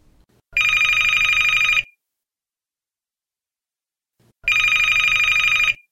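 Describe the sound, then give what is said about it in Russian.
A telephone rings twice, each ring a loud, steady electronic trill lasting over a second, separated by a long silent pause. Clear with no voices. “Деловое общение по телефону. Телефонный разговор 1.”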